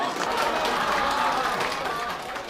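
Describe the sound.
Dense, steady applause from dozens of editors, presenters and reporters of Chinese state broadcaster CCTV, lined up in its open-plan offices in Beijing and clapping for Xi Jinping. A loud continuous patter of hands with a murmur of crowd voices mixed in.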